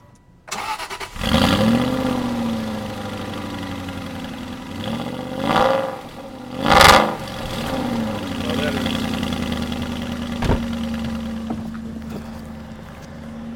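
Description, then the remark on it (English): A car engine with an active exhaust cranks and fires up at about one second at a ranch, revs loudly twice with sharp rising surges, then settles into a steady, rumbling idle. “All right, well, one of the best things about this car is how it sounds. So why don't we drive it up to the ranch, and you can start it up and let him hear what it sounds like.”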